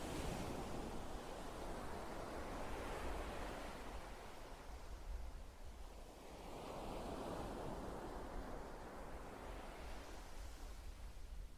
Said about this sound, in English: As well as the sound of the waves.